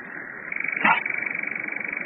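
A nightjar (Caprimulgus) makes its steady mechanical whirring churr, a dry rapid trill held at one pitch without a break, with one brief louder burst partway through and no talking.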